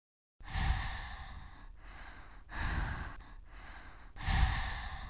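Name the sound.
gasping breath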